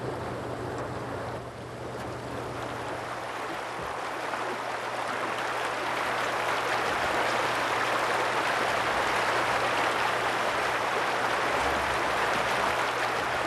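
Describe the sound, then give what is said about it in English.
The Red Willow Creek of the Taos Pueblo people, fed by melting snow, rushes steadily, a dense, continuous hiss that swells slightly after the first couple of seconds. A faint low hum sits underneath, and no one speaks. “Listen to the Red Willow Creek.”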